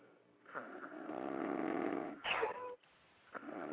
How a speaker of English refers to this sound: I was snoring.